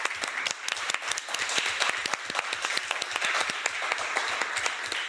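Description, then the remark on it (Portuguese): A round of applause from a crowd for the organizing staff, many hands clapping in a dense, steady patter that holds fairly loud and even across the whole stretch. “Senhoras estão ali, acho que devemos dar uma salva de palmas.”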